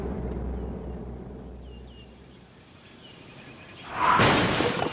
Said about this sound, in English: No, I heard a crash. Magnus and Claudia had an accident. Magnus drove into a tree.